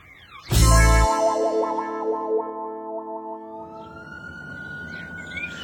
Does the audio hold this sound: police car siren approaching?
yes